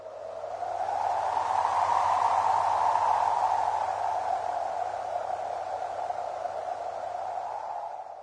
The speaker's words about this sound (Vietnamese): Đây là tiếng gió thổi mạnh có đúng không ạ? Vâng, từ để chỉ âm thanh này là hiu hiu. Hiu hiu miêu tả gió thổi ù ù, mạnh và liên tục.